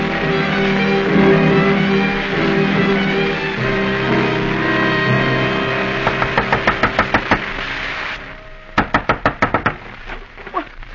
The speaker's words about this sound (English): You don't have to knock the door down.